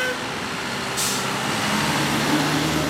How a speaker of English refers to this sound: And just outside his office, a fancy new Washington, D.C. Metro bus pulls away. The D.C. Metro bus system has a newer fleet that has the newer engines from the Cummins company.